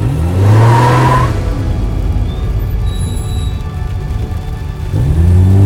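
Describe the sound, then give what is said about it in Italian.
A car engine is started and revs up loudly, settles into a steady running hum, then rises again as the car reverses about a metre out of a supermarket parking space and pulls away onto the road. No voices are heard. “Metto in moto e inizio a fare retromarcia.”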